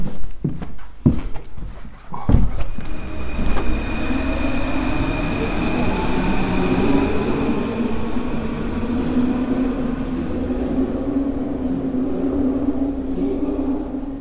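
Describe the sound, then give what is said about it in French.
An underground metro train rumbles steadily and loudly, with a few sharp clanks at the start giving way to a continuous roar and faint high-pitched wheel whine as it runs through the tunnel. “Ce qui est bien dans le métro, c'est qu'on a le bruit et l'odeur.”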